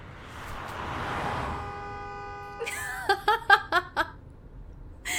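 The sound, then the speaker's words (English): A car swells in and rushes past, its noise fading after a couple of seconds, followed by a burst of high-pitched giggling. “Oh, car coming!”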